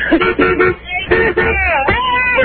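A string of short, loud car horn honks from passing cars comes in quick succession. It is followed by a longer blaring tone that bends downward in pitch as a vehicle passes.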